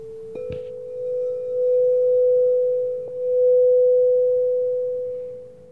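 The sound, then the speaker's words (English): A crown chakra singing bowl tuned to the note B is struck, then rings out a steady, pure sustained tone. A second light tap midway renews the ring, which swells gently and holds without fading. “The seventh one is the crown chakra, represented by the note of B.”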